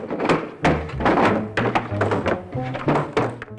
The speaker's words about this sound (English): He frees the plunger from the desktop and cack-handedly puts the desktop back on the man's desk.